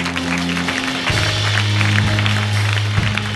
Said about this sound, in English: Now let's give the Lord a clap. Amen.